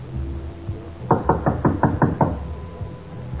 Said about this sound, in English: Better stand to one side. Okay. We're going to knock on the door. We might get bullets for an answer.